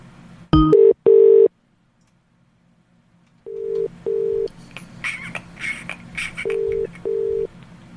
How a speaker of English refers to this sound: We missed a phone call there, so I'm just going to call this person back.